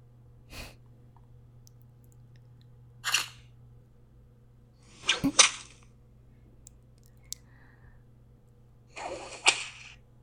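Sharp whip lashes crack out one at a time, several spaced several seconds apart, with the last two the loudest, over a steady low background hum with no talking.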